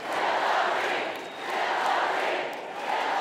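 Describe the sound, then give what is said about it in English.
A big rally crowd of about 1,500 people packed into a community college gymnasium cheers and roars without letup as former Secretary of State Hillary Clinton reaches the stage, a loud, dense wash of voices that swells in waves with two brief dips. No single voice stands out. “By the time the former Secretary of State made it to the stage, the crowd was ready.”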